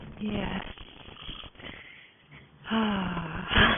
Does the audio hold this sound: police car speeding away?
no